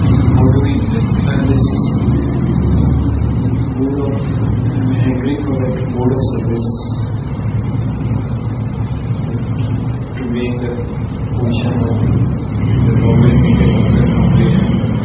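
A motorcycle engine rumbles, a loud, steady low drone that holds for the whole stretch, with indistinct voices faintly mixed underneath.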